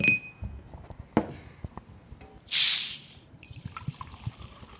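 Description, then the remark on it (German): Glass clinks and light knocks, then a sharp, brief fizzing hiss as Walser sparkling mineral water is opened and poured at the Climeworks offices, followed by faint crackling bubbles settling in the glass. No talking. “Ein bisschen trinken? Oh ja, jetzt gerne doch. Wasser mit oder ohne? Ja, wenn schon mit.”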